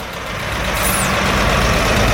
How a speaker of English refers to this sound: And there's another road to my right leading up to the petrol pumps and it too is packed with vehicles. But at least the sign here is saying that there is petrol right now in this place.